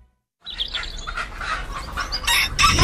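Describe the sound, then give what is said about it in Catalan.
After a brief silence, a rooster lets out a loud crow that stretches on and grows stronger toward the end, with no voices present, in an advert for the Fira del Gall of Vilafranca del Penedès. “Els dies 15 i 16 de desembre, descobreix el Gall del Penedès.”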